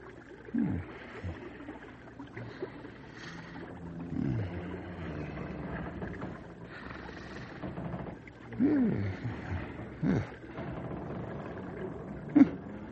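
Loud, rumbling snoring fills the scene, deep and growly, rising and falling in uneven bursts with a few sharper snorts, close by and with no one talking.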